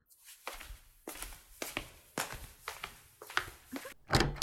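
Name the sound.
door being opened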